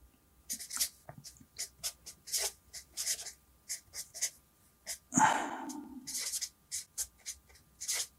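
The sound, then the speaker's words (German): A pen scratches across paper in quick strokes, a rhythmic series of short scribbles with brief pauses between them, plus one slightly louder rubbing stroke midway. “So, und der braucht ja jetzt halt also ordentlich Futter und dieses Futter, da nehme ich am besten einen anderen Stift, das ist jetzt die Information.”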